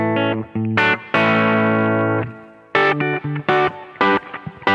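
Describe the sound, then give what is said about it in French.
An overdriven electric guitar plays a short riff of single notes and a long ringing chord, fairly loud, with a light stereo reverb softening the tails. No one speaks. “Et si je vous mets un tout petit peu de reverb ici, stéréo, ça nous donne une jolie image.”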